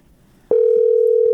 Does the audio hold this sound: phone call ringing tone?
yes